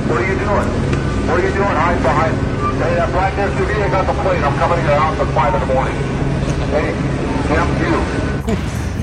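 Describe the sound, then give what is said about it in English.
A steady, loud police helicopter drone fills the whole recording, with an amplified, distorted LAPD voice booming continuously over the engine noise from a loudspeaker overhead, addressing protesters. “They're in the helicopter, bro.”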